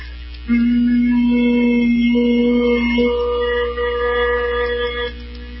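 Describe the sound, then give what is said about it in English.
During a breathing exercise, a single person with ears covered hums one long, steady low note for about five seconds after a deep inhale through the nose, clear, with no talking, and a slight shift in tone partway through. “Inhale, covering your ears.”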